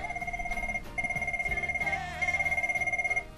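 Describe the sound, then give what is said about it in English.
A telephone rings with an incoming call to the Lifeline support line, a steady warbling electronic trill, two bursts separated by a brief pause, fairly loud, with faint low background noise underneath. “And once the call comes in, they actually just press the headset button, hello, this is Lifeline, and then they just ask the caller to just tell them what's happening for them when they actually overrun what the reason for ringing is today.”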